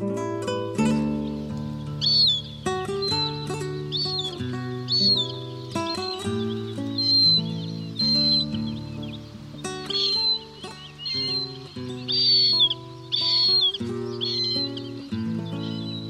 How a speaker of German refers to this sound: Das war die Rohrweihe.